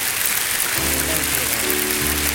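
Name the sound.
audience clapping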